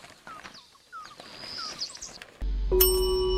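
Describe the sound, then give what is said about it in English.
A single bright ding of a hotel service bell rings out near the end and lingers with a clear metallic tone, after a stretch of faint, chirpy background sounds. “I heard the bell the first time, but I ignored it, and I figured you would too.”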